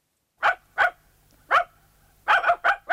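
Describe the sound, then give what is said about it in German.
A dog barks sharply about seven times, first in spaced single barks, then in a quicker burst of four near the end; clear with no one talking. “Der Hund, des Menschen bester Freund, seit mindestens 15.000 Jahren.”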